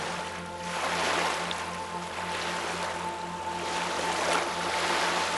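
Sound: gentle ocean waves breaking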